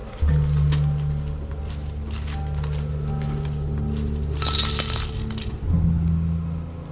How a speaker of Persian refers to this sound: گلین کیسه ی سکه ای رو تو پیاله ی سفالی میریزه.